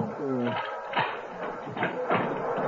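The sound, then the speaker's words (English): A door bolt is drawn back in a few sharp clacks and thuds, spaced unevenly over a couple of seconds, following a brief voiced sound at the start. “Pinky, unbolt the door.”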